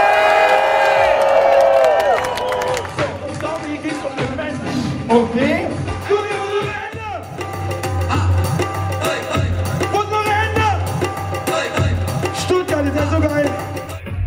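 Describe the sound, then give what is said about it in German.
A large crowd at an outdoor gathering in Stuttgart, Germany, in fine weather, with police present, cheers loudly and continuously, with shouts, high whoops and scattered clapping rising over a steady low rumble. “Und jetzt will ich jetzt aber Jubel hören!”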